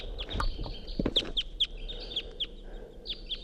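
crossbill calls

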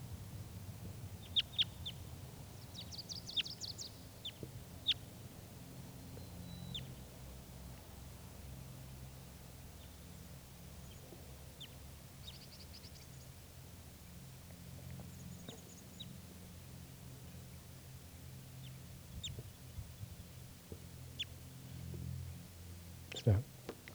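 female wild bird calling

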